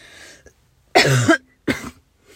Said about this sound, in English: Attractive way of coughing. Look, it's just a cold.